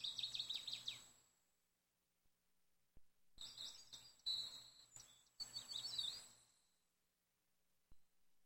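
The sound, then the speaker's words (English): High, rapid bird chirps and twitters come in bursts from more than one bird, with pauses of near silence between, over a faint low background hum. “As the moving water massages your feet, you hear birds chirping. Several different birds.”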